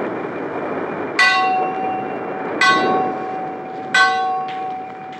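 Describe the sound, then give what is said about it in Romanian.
The large bell on the mast of the ship Neptun rings three times at steady intervals in thick fog at sea, each clang ringing out and fading, over a constant rushing background like wind and water. It is rung because of the fog, so the ship does not hit another ship. “Sunetul clopotului mare de pe catarg răzbătea din când în când prin valurile de ceață.”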